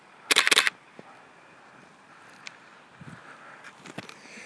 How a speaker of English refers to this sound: Okay, now there's a, ooh, there's some raindrops coming off some of these leaves. I'm gonna try to get as well.